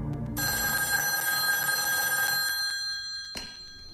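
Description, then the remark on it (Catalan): An old-style telephone bell rings loudly and continuously, a bright metallic jangle that sustains for a few seconds before cutting off abruptly, with a faint clunk at the end, before Ida picks up the phone. “La Ida agafa el telèfon, es gira i mira fixament el doctor Risk.”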